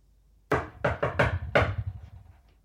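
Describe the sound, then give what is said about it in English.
A patterned secret knock on a door: five sharp raps in an uneven rhythm, one knock, a quick triple, then a final knock, with no voices. “I have to do that secret knock to open the”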